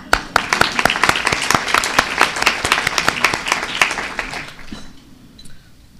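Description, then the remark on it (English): A room full of people at the Afghan Women Leaders Speak conference claps steadily for about five seconds to welcome the attendees, a dense patter of hands that fades out, leaving a quiet murmur at the end. “And let's clap for your coming and welcoming you all.”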